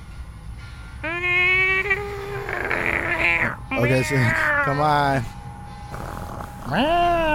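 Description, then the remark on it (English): A person imitates a cat, letting out several drawn-out, wavering meows, broken up by bits of ordinary speech. “she's walking around all fours towards you like a kitty cat.”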